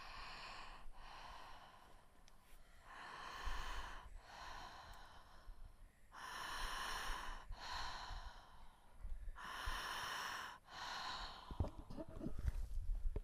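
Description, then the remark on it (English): Deep, steady connected breaths drawn and released through a mouth open about two fingers wide, fairly loud, in a continuous rhythm of about five or six cycles with no pauses between inhale and exhale, breathing into the belly and up into the chest with a relaxed exhale. “Breathing through an open mouth about the width of 2 fingers.”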